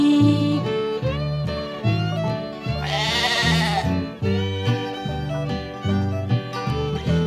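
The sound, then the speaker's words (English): A single wavering bleat from a woolly white sheep rises for about a second over bouncy, steady-rhythm music that plays throughout, the bleat sitting loud on top of the tune. “Fee-deedle-dee-deedle-dee-dee-dee, the sheep is talking to me.”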